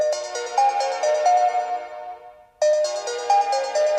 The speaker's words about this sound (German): Aber bei Hans Blaupause, da klingelt schon wieder das Telefon. Ein neuer Auftrag ist in Sicht.